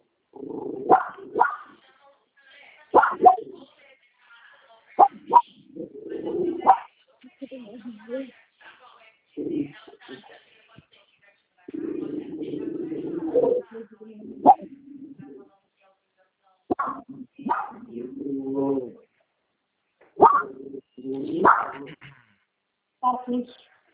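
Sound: dogs barking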